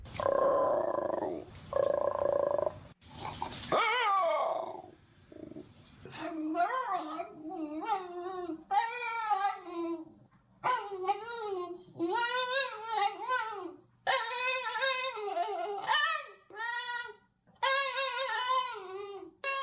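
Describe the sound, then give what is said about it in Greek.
A Basenji dog yodels and warbles instead of barking, letting out a long run of loud, wavering calls that rise and fall in pitch, following a few seconds of rough noise. “Τα σκυλιά της φυλής Μπασέντσι δεν γαυγίζουν, αντί για γαύγισμα βγάζουν αυτό τον ήχο.”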